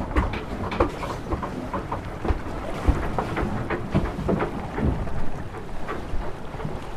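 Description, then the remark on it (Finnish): A steady roar of wind gusts with a deep rumbling low end and rain pattering in scattered sharp bursts, fairly loud throughout, with no voices. “Tuuli on ihan älystys. No nyt kun se sade.”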